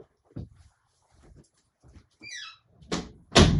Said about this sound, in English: I had to shut my door.